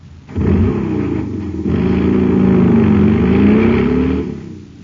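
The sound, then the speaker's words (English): A supercharged jet cycle engine, filled with super fuel at a filling station, roars loudly and steadily for about four seconds, its deep revving tone wavering up and down in pitch before cutting off abruptly. “Man, that cycle's roaring like a rocket now because it's supercharged with super fuel.”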